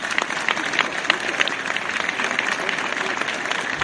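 loud applause

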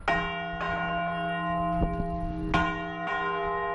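cathedral church bells ringing

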